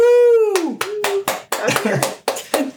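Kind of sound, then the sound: crowd, two people clapping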